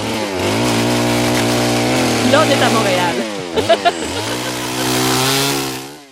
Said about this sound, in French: Mais je regarde le débat actuellement sur les souffleurs de feuilles, là, les blowers, là. C'est ça. Écoute, à Westmount, Beaconsfield, dans l'ouest de l'île, on veut les interdire. Ceux qui sont à essence. Parce que ça fait trop de bruit